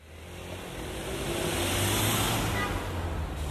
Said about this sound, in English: A busy city street, dominated by the din of the internal combustion engine. But that soundscape is going to change as more of us switch to electric vehicles like Jaguar's I-Pace.